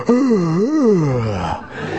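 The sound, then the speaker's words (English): A voice imitates a long, drawn-out, bored yawn, an unearthly yawn from heaven. It is a loud, wavering moan that rises and falls in pitch for about a second and a half before trailing off. “I'm not quite sure whether it was during that period of time that I heard that unearthly yawn from heaven when I was going through my prayer list, you know.”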